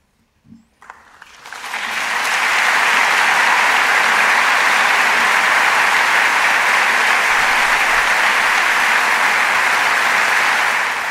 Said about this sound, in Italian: L'applauso del pubblico del Teatro alla Scala il 25 aprile